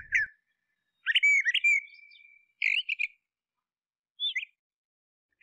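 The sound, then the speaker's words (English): A bird sings in a yard in several short, bright phrases of chirps and warbles with a sustained whistled note, separated by pauses of silence, clear with no voices. “I wish I could hear the sweet sound of the birds singing.”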